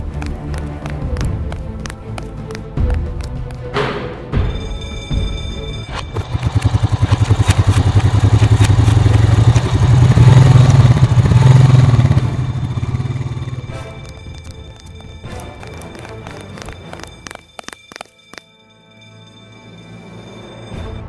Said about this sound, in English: Mercury, come in. Do you see the four-wheelers departing? That's affirmative. They're headed for the camp.